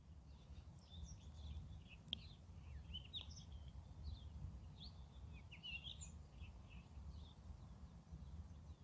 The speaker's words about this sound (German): Ich werde jetzt noch ein bisschen diese Natur genießen und diese wunderschönen Geräusche. Vielleicht hörst du es im Hintergrund. Ich bin mal ganz kurz still, dann darfst du mal auch diesen wundervollen Vögeln lauschen.